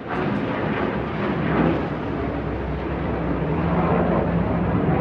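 A loud, sustained roar of an F-15 Eagle fighter jet taking off from U.S. Air Force Base Kadena in southern Okinawa, a dense rumbling blast filling the whole five seconds with a slight swell near the start, no voices present.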